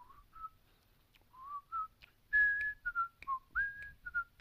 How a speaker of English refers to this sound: I can whistle that.